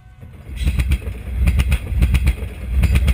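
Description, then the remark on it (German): A mobile medical clinic train, called the train of health or train of hope, rumbles into the station at Tzaneen, a small town in rural northern South Africa. A steady low roar is punctuated by rhythmic clanks and squeals of wheels on the track, growing fuller and louder after a quiet start. “Der Pelopepa fährt ein, der Zug der Gesundheit oder Zug der Hoffnung, wie er auch gerne in Südafrika genannt wird.”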